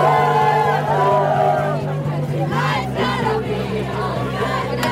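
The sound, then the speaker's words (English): A loud protest crowd outside the court on Friday morning as the verdict comes down: many overlapping voices shouting and calling out at once, with a steady low drone running beneath the noise throughout. “Both groups were outside the court Friday morning when the verdict came down to protest.”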